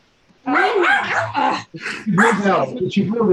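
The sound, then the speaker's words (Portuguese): The speaker's own dogs bark angrily in a loud, agitated volley, sharp overlapping barks and yips tumbling out with only brief gaps between bursts. “O cachorro tá bravo aí.”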